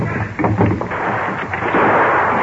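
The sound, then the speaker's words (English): A burst of gunfire from approaching horsemen, a posse led by the sheriff: several quick, muffled shots crackling in a cluster, then a steady rumbling roar of noise. The sound is dull and band-limited, with no voices. “What is their gunfire mean?”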